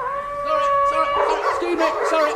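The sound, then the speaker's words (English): A dog lets out a steady, mid-pitched howl, then breaks into a flurry of loud, rough barks and yips that continue to the end. “The Beckett Centre welcomes everybody, but don't forget, no dogs except guide dogs.”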